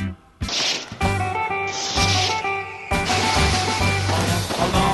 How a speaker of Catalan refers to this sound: Castell de foc, ai, ves quin soroll que fa.